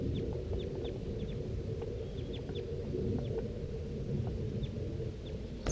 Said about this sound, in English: Start recording 7:36 a.m. now, and I hear that flock of crossbills. It's sort of to the south, down the hollow a little ways, and I think it could be heading this way. That was 4-3. Stop. The crossbill's flying over.